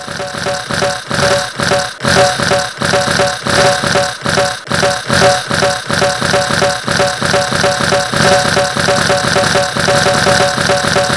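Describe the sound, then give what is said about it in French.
A voice imitates a Hürlimann tractor engine starting, with loud, rhythmic chugging pulses that sputter at first and then settle into a steady running beat for about eleven seconds. “on peut parfaitement en faire le bruit d'un tracteur Hurliman au démarrage.”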